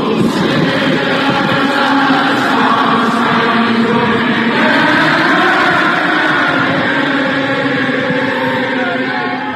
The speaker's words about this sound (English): all of the fans singing the national anthem at the same time